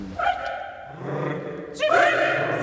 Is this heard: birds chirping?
no